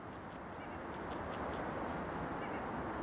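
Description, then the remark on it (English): A few bird calls chirp, scattered and irregular, almost buried under a steady, loud rumbling outdoor noise that fills the whole stretch. “You hear that? That was it. The cacophony of bird.”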